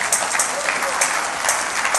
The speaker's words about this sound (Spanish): O alguien dele un aplauso fuerte al Señor.